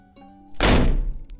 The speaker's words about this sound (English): I awoke to the door being flung open by the doctor.